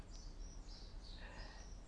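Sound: birds chirping outdoors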